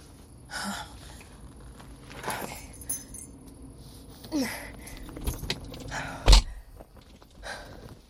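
keys jangling

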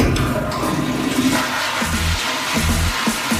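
toilet flushing

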